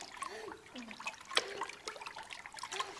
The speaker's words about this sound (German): Er zappelt mit den Armen und Beinen. Er schlug ganz viel Wasser.